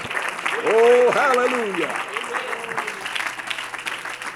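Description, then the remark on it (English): An audience claps hands steadily in worship in a dense, continuous wash of applause, while voices call out and exclaim loudly over the clapping for the first couple of seconds. “Can we clap our hands and worship him?”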